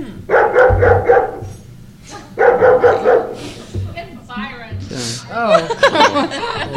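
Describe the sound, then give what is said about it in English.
A dog barks in two short, repeated bursts, sounding shut inside a car trunk, followed by people talking and chuckling. “He wants out of the trunk. Get in the cab. He wants out of the trunk. Yeah. It's the dog in the trunk.”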